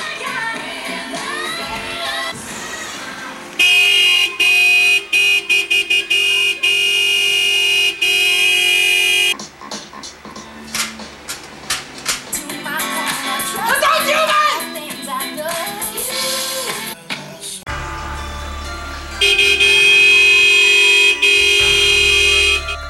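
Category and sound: vehicle, car horn honking repeatedly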